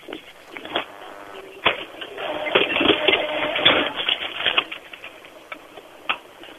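A cash register in a store ringing up a sale for a customer: clattering key taps and a whirring, printer-like mechanical rattle in uneven bursts, with no one talking.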